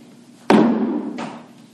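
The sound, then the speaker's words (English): A loud, sharp hammer blow on a nail lands with a ringing decay, followed about a second later by a softer second strike; no voices are heard. “the hammer sounds again.”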